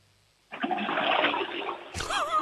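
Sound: toilet flushing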